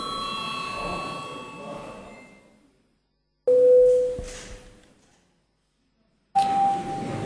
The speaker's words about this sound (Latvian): Godātie deputāti, zālē nav kvoruma. Lūdzu zvanu.